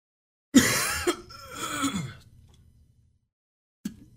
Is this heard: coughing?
yes